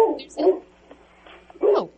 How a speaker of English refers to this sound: I hear your dog.